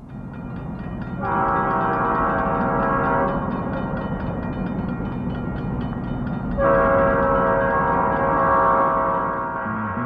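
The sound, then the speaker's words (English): A train rumbles steadily while its horn blares in two long, loud blasts, the first starting after a second and the second near the end, over a constant low mechanical roar. “Betty, what's the train? Is it something I can ride?”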